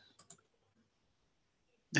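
A few quick keyboard keystrokes tap as someone types in the dark, followed by near silence, then a single louder clack right at the end. No one speaks.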